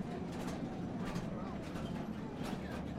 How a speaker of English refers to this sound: Leaving the stope, we head back down the stairs and onto the train. We travel 1,500 feet more to examine another portion of the mine.